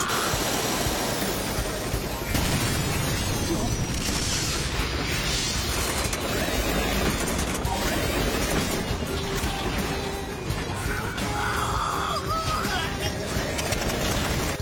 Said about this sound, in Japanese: エンジンが吹いた。